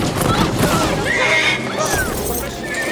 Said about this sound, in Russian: На площадь выскакивает лошадь принцессы Анны.